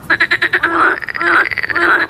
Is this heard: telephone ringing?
no